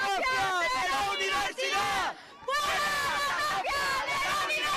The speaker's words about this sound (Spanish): En este momento, como ves, el ambiente está encendido en Móstoles al grito de fuera la mafia de la universidad.